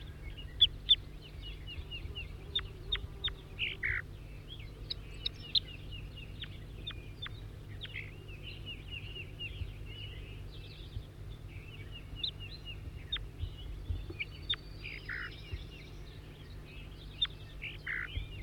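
bird, bird song

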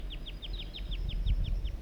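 bird, juvenile wild bird vocalizations

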